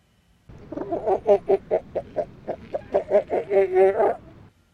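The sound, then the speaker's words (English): A wild female northern elephant seal gives a pup attraction call: a loud, rapid run of about a dozen harsh, pulsed, harmonic bursts that rise and fall in a steady rhythm for roughly four seconds, alone. “Pup attraction call produced by a wild female northern elephant seal.”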